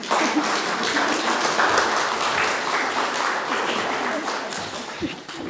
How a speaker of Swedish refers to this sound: Ge dem en varm applåd till här, tycker jag. Pettersson och Findus och Jesus.